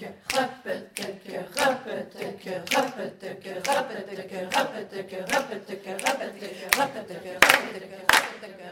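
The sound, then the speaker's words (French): Steady hand claps, about fourteen sharp, evenly spaced smacks at a brisk pace, fairly loud over a continuous voice murmuring beneath them. “Avec le droit, on claque.”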